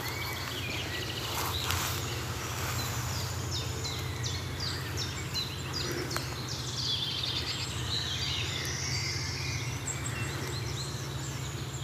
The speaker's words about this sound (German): Während hinten ganz entfernt der Waldlaubsänger zu hören ist, die Meisen schimpfen. Buchfink hinter uns ist entspannt, also müssen die vorne rechts sein.